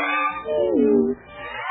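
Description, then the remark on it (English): Voices mimic cat meows as singing kittens, two drawn-out, wavering mews in quick succession, fairly loud, with a sliding pitch that dips and rises like a real cat's cry. “Meow. Meow.”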